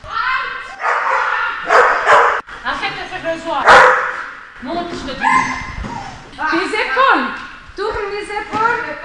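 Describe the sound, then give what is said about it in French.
A dog barks and yips excitedly in rapid, overlapping bursts, loud, with occasional whiny tones, during dog agility training, while people talk over the noise. “Donc au départ, il doit s'asseoir le chien? Pas forcément. Ah ok. Il est tellement énervé.”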